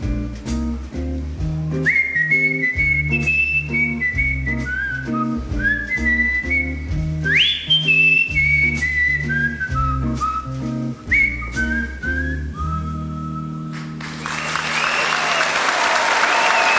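crowd cheering

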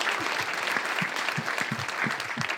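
audience round of applause

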